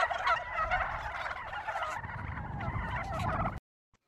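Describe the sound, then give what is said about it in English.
A flock of turkeys gobbles continuously, several birds calling over one another in a loud, dense chorus for about three and a half seconds before it cuts off abruptly. “They're clever, those turkeys. They're coming at you from all angles.”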